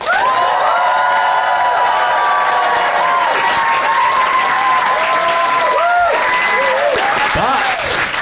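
The Live Phoenix audience applauds loudly and steadily for about eight seconds as a vote, with whoops and cheers rising above the dense clapping and a crowd murmur throughout.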